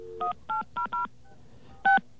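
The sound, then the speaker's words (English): Touch-tone telephone dialing of an ANI number-readback line: four quick two-pitched beeps in a steady rhythm, a pause, then a fifth, louder beep, all over a faint background hum with no talking. “We're going to try out that number.”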